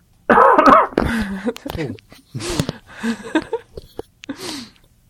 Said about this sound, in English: It didn't sound like a lady cough.